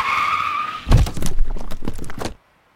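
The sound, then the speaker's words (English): A car's tires screech in a sustained, high-pitched skid for about a second on a road in Wyoming, then a loud thudding impact as the car hits a deer, followed by crunching, rattling debris before everything abruptly goes silent. “Well, it might be free, but you might need a paint job on your car's front bumper because the meal is actually a deer that you hit while driving on the road earlier in the day.”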